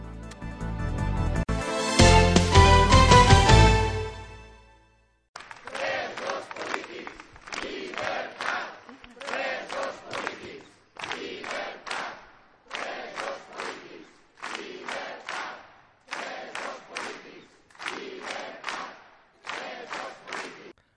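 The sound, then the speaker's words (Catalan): A large protest crowd in plaça La Quartera chants slogans such as "llibertat" and "presos polítics" against the imprisonment of Generalitat government members, in a steady rhythmic cadence, roughly a dozen loud bursts with short pauses, after a brief burst of dense, loud noise at the start. “Al crit de llibertat, presos polítics i d'altres consignes, la plaça La Quartera es va tornar a omplir el passat dijous per protestar contra l'empresonament dels membres del govern de la Generalitat, després d'haver declarat a l'Audiència Nacional.”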